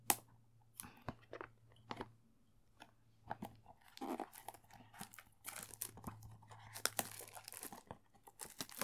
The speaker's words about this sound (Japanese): そこそこ小さめの箱に入ってるやつなんですけどね。まあ、これはね、名前は言えないんですけど、とても親近感が湧きますね。うん、これも、ハサミで開けていきましょう。よいしょ。